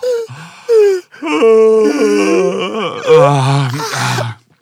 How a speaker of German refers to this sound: Oh, warte mal. Meine Augen tränen vor dem Gähnen.